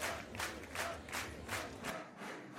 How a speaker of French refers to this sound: Un tonnerre d'applaudissements pour nos 4 demi-finalistes.